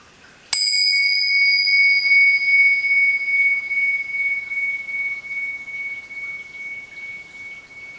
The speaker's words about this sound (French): Je vais commencer par juste faire sonner cette cloche, et je vous invite juste à un petit moment court de présence partagée.